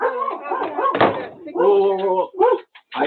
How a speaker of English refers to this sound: I'm gonna just comment on this because the dog's barking and stuff.